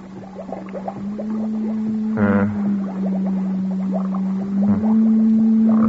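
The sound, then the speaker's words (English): A steady electronic hum drones throughout, overlaid with bubbling, warbling tones and a brief louder pulsing burst near the middle, from an encephalograph reading a brain's alpha waves. “On the encephalograph.”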